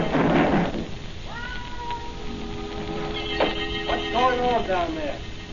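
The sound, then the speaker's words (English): A cat yowls in several long, wavering cries that rise and fall in pitch, loud, after a brief burst of rustling noise at the start. “He's a plain cat, make as much noise as a garbage collector.”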